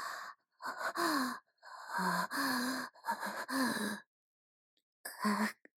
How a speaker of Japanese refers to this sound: 暑い。体温が上がってきて息遣いも荒く。なんだこれは。まるで発情期の動物じゃないか。